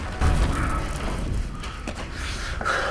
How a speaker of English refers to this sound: Little John knocks down the strong room door.